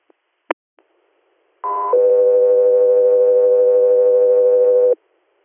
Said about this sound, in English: Alaska, 3 Air, stand by for tones.